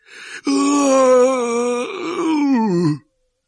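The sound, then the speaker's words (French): A human voice, voicing Hagrid, lets out one long, loud wailing howl in imitation of a wounded dog. It holds a steady pitch, then sags and trails downward before cutting off after about three seconds. “Puis, soudain, Hagrid laissa échapper un long hurlement de chien blessé.”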